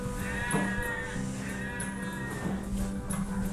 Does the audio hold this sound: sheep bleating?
yes